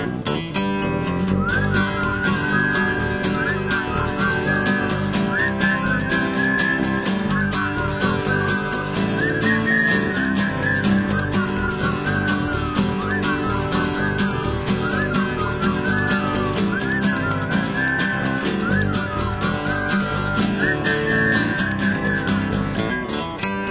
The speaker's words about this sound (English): He said, stock them block and mix me some mud. We're gonna whistle while we work today, old bud.